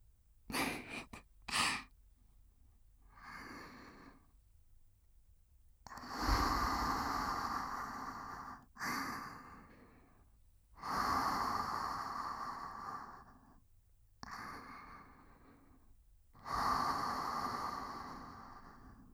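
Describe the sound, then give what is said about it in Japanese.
A few soft clicks, then about five long, warm, breathy exhales close to the ear in slow succession, each a steady airy whoosh that swells and fades, with quiet pauses between and no talking. “私の吐息あったかい。”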